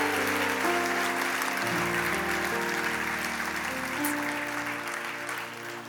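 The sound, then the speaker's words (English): A crowd applauds steadily for several seconds, a dense wash of clapping over sustained music tones, easing off slightly toward the end. “Give them a big hand. Est-ce qu'on peut les applaudir bien fort?”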